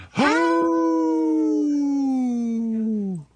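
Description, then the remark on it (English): A person on the Native Roots Radio show I'm Awake imitates a wolf with one sustained, loud howl lasting about three seconds, starting with a sharp rise and holding a steady, slightly falling pitch before trailing off. “Yeah, we need a wolf in our band.”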